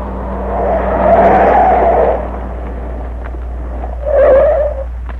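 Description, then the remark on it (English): A truck's engine rumbles and swells as it pulls away from a house, with a low steady drone underneath and a second brief rise in engine noise near the end. No one speaks. “There's the truck. Just pulling away from that house.”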